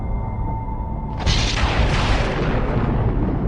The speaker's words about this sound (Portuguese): Tupã mandou trovões para alertar os pais do curumim.